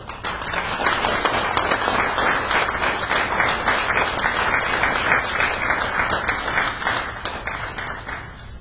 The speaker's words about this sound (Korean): 박수로 환영합시다.